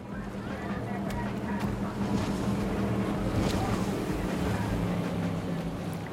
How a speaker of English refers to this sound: A long speedboat cuts across the horizon behind him.